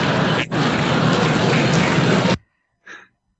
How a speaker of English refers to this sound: Is it raining in here?